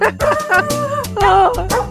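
Dog barks pitched into a melody, bouncing in a quick rhythmic run over a steady bass line, like a novelty holiday song sung entirely by dogs; loud, no talking.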